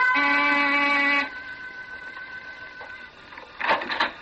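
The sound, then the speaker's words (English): A door buzzer at 15 Cantilever Walk, a big gray stone house with iron over every window, gives one loud, harsh electric buzz lasting just over a second. A faint lingering hum follows, then a short muffled clatter near the end. No one speaks. “I rang the door buzzer.”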